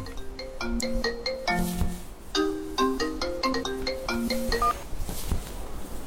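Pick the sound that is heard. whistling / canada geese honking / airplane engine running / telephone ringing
telephone ringing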